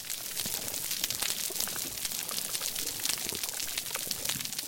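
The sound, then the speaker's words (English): Dense, steady crackling of a coral reef, countless tiny sharp snaps from crustaceans popping and fizzing together in a bright, continuous hiss-like texture, with no voices. “If Julius hadn't described this recording to me, I probably would have never guessed that those crackles were coming from a vibrant coral reef.”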